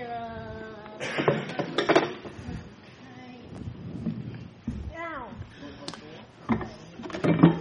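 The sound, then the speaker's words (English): Chairs being fetched, carried and set down: a series of hard knocks, clatters and short scrapes at irregular intervals, with voices murmuring in between. “Oh, and I need some chairs. Let me get some chairs.”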